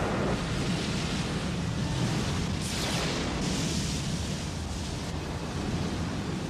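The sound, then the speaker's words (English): A storm squall roars without a break, dense wind rushing over churning waves, with louder surging gusts swelling around the middle and again near the end. No voices are heard. “And while he's reading this on his way back, a storm blows up, like a crazy white squall, kind of like this.”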